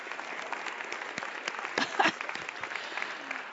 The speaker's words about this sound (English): I mean, can we just give him a round of applause for that?